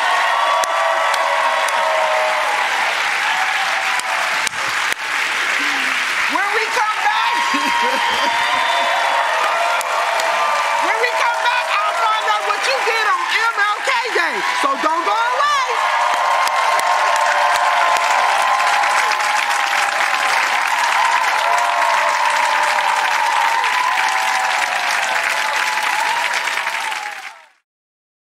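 An audience breaks into sustained applause with cheering and whoops, a dense wash of clapping that holds steady and loud for nearly half a minute before cutting off abruptly.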